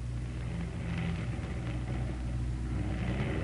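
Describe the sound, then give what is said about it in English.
A propeller aircraft with one engine out drones steadily overhead as it comes in for a crash landing, a deep continuous rumble holding fairly constant loudness throughout, with no voices present. “Hey, Joe, listen. Somebody's coming in.”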